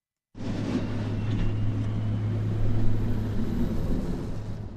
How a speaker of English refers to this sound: The familiar sound of plows today as a nor'easter brings dry, powdery snow to the state with highest totals along the coast.